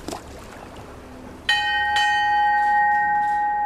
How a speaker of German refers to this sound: Die Schiffsglocke läutet zum Abschied.